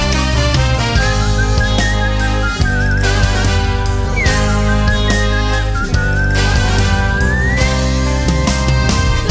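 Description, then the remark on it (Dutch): A clear, sustained whistled melody glides and wavers over a full, loud musical backing, the tune weaving steadily through the whole stretch without any talking. “En als ik fluit maak ik muziek.”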